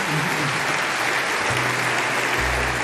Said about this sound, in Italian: Anche qui un lungo applauso appena Mattarella pronuncia il nome di Lorenzo Parelli